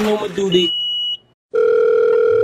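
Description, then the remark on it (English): A short burst of voice-like sound gives way to a moment of near silence, then a steady, loud telephone line tone on a call to a song's hotline voicemail sounds continuously at a single mid pitch until the end. “Thank you for calling the … hotline.”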